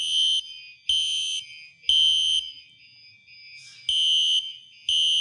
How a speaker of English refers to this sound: And that essentially sounds like a monster cricket on steroids. And that makes you want to get out of the building. All of us exit out the back of the building and line up out in front of the playground. This is what the fire alarm sounds like.